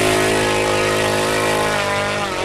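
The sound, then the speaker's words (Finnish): A model aircraft's four-stroke engine, just started at a model aircraft field in Finland, runs steadily and loudly, a dense buzzing drone with strong harmonic layers and a slight pitch wobble, no voices over it. “No niin, kyllä sitä ääntä tulee, kun pistää nelitahtimoottorin käyntiin, niin kuin huomataan.”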